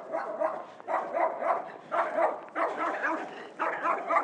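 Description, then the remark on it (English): A dog barks in a steady run of about five drawn-out, mid-pitched bursts separated by brief gaps, moderately loud, with no talking over it. “Oh, there's a dog up here.”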